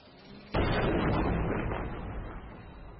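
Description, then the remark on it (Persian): A single loud explosion in war footage being played erupts suddenly after a quiet moment, its broad rumbling blast lingering and slowly fading over the next few seconds. “مثلا استاد رهگیری و شناسایی و تمرکز روی سوژه‌های دشمنن و با انفجارهای بسیار بسیار دقیقشون ضربات مهلکی رو به دشمنشون وارد میکنن.”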